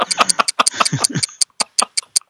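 A clock ticks with sharp, quick clicks at a fairly steady pace. Muffled voice-like sound blends in during the first half, and the ticks stand alone toward the end.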